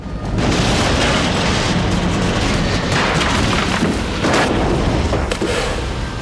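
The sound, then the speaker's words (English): A plane slams into snowy ground in a clearing littered with fir trees, with a loud, sustained roaring crash, a continuous heavy rumble layered with crunching, tearing bursts that barely let up for about six seconds. “Rick leans forward, but as the plane hits the ground, he's thrown back.”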